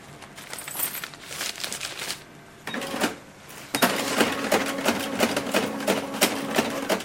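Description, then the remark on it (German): A cash register clatters and whirs through a sale of a used hip-hop record at a record shop in Zürich's district 4, with rapid mechanical ticking and a printing-like buzz swelling midway, fairly loud, without any talking. “8 Franken mehr in der Kasse von Marion Leiser.”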